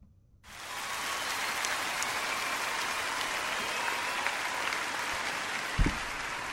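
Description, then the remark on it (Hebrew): A large audience applauds steadily at a singer's live performance from 2014, a dense wash of clapping that starts abruptly and holds at an even level throughout, with one brief low thump near the end. “לפי המחיאות כפיים, אנחנו יודעים שזה ביצוע חי, זה ביצוע מ-2014.”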